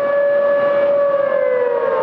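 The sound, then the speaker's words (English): A loud, steady civil defense siren for a South Korean air raid drill wails continuously throughout the capital, Seoul, holding a sustained tone with a slight downward drift, with no voices present. “The sirens can be heard throughout the capital, Seoul, which is, after all, only about an hour's drive from the North Korean border.”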